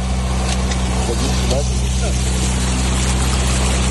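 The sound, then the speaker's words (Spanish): Motorboat engines of rescue boats carrying many people through floodwater, rescuing residents of flooded houses and buildings in Ukraine, drone steadily and loudly throughout, a constant low rumble with a faint higher whine, while indistinct voices murmur in the background. “Este que escuchas es el sonido de las lanchas con muchas personas que están rescatando, pues, a vecinos de casas y edificios totalmente anegados por el agua.”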